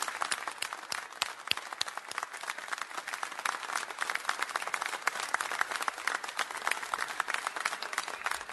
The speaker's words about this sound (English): Ladies, I just want you to stay seated, and I want you to know how much we appreciate you and how much we love you. Guys, would you stand to your feet? Would you just applaud these ladies?